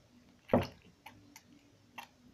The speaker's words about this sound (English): I'll load the sponge with a lot more soap and water.